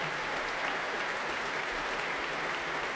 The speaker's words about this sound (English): utterly transporting performance of Beethoven's Violin Concerto by Christian Tetzlaff, who's being applauded by conductor David Robertson and by the entire orchestra of the St. Louis Symphony here for the first time at the Proms.